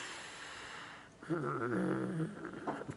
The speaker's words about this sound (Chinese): 它用喉部，用喉部紧缩，吸气吐气。我示范一下哈，吸气吐气，有没有去挤压这个喉咙的肌肉？好，所以你会听到自己的呼吸声带着一种声音